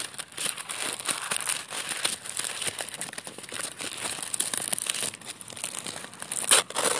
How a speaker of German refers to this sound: Ja, tatsächlich. Sie zerreißt das Papier von der Kekspackung. Ja. Aber ganz leise.